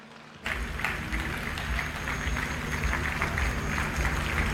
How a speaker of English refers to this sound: Praise the Lord. You clap like you're in a local government.